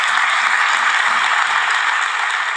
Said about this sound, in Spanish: Y ahora, no me enrollo más, un fuerte aplauso